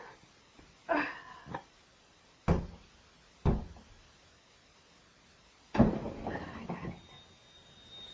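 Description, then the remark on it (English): A window is worked open or shut: a brief scraping slide, two sharp knocks, then a longer rattling slide that settles, fairly loud, with no talking. “Is this window open?”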